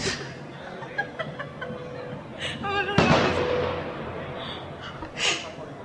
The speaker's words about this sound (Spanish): Sí, podemos esperar 5 minutos, ¿no? En que pasen los cohetes.